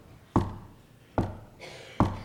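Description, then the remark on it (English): Three sharp hammer blows land at a slow, steady pace about a second apart, each a crisp thud with a brief ringing tail, with no talking over them. “Somebody is hammering.”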